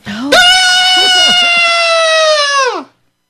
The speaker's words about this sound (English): So they're rolling around and fighting, and have you ever heard a squirrel scream?